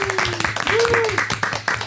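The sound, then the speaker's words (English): An audience applauds the show's engineer in the headphones with a dense, steady clatter of many hands clapping, and a sustained, wavering whistle-like tone rises and falls above the noise. “Round of applause for him in the headphones.”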